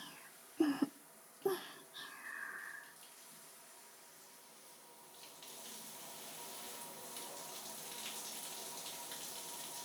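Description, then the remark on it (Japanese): Two brief knocks are followed by a quiet lull, then a shower starts spraying to rinse off, its steady hiss of running water continuing to the end. “とりあえずシャワーで流そうか。”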